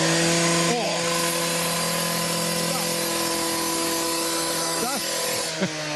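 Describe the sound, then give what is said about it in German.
A power saw cuts through stone paving slabs for a new sidewalk in Harburg. Its loud, steady motor whine and harsh grinding hiss run unbroken from start to finish, with a few brief pitch wobbles. “Und hier werden die Steine geschnitten.”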